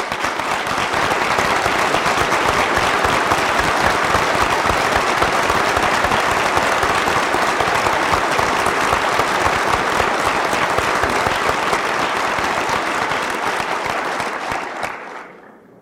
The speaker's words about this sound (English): husbands, and children of those who have been awarded degrees today to stand up so that the graduates, the faculty, and the administrators may applaud you for the role you have played in providing for their education.